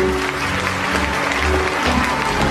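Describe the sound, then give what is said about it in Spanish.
Steady audience applause for Pat Solazano Jr. and Tiffany Maxwell after their dance, which earned 5 points from the judges: a dense wash of many hands clapping continuously at a fairly loud, even level, with a low hum of crowd noise underneath and no clear speech. “Un aplauso para Pat Solazano Jr. y Tiffany Maxwell.”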